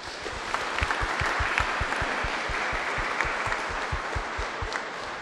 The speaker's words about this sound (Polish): Wielkie brawa.